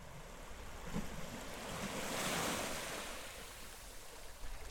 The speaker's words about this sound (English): So there's this beach I always go to when I'm home, where the waves crash against these towering lumpy rocks. You can jump off them when the tide's high and snorkel around them when it's low.